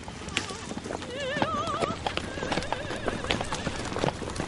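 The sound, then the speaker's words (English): Hooves of a horse pulling a buggy clip-clop steadily at a walking pace, fairly loud, while the horse lets out a wavering whinny partway through. “So how much did that horse and buggy set us back?”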